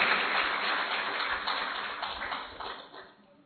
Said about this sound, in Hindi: हाँ, जो अभी ताली बजा सकते हैं आज के लिए।